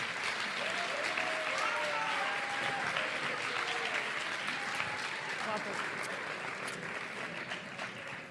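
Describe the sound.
Sustained audience applause at the MazPod podcasting award presentation, as the president of the Asociación Madrileña de Podcasting is called to the stage, a dense, steady clatter of many hands clapping at an even loudness, with a few voices faintly calling out underneath.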